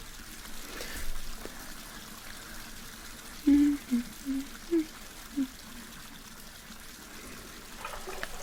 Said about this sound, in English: Well, I'll just draw the water for you and you scamper in a few minutes when it's ready.